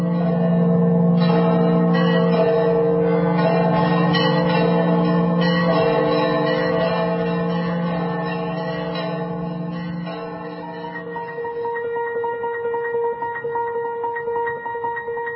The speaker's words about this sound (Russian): Дорогие братья и сестры, этот перезвон ни с чем не спутаешь. Это звоны храма гроба Господня в Святом Граде Иерусалиме.